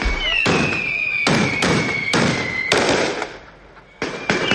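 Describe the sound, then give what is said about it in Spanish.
Aerial fireworks in the Plaza de la Señoría, Benidorm, in the morning for the feast day of the town's patron saint, San Jaime: sharp bangs burst in quick succession, about eight loud cracks with crackling tails, while a steady high whistle runs underneath before fading; a brief lull comes before the final bursts. “Esta mañana se anunciaba con el volteo de campanas y un bombardeo aéreo en la Plaza de la Señoría.”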